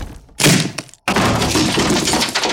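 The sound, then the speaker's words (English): A dungeon door is smashed in: a loud, sharp splintering burst, a split-second pause, then a long, heavy crash of breaking and clattering debris that carries on to the end. “Just gotta break this dungeon door down.”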